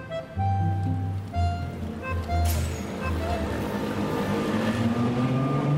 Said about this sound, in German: Salzburg, Mirabellplatz. Eigentlich kein Platz, sondern eine ziemlich verkehrsreiche Straße. Mit viel frequentierten Bushaltestellen und Parkplätzen für Reise- und Sightseeing-Busse.